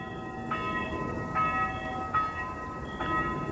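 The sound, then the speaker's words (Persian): A church bell rings with four evenly spaced strikes, each leaving a sustained, overlapping hum of tones above a steady low background rumble, with no voices. “این هم صدای ناقوس کلیساست بچه ها.”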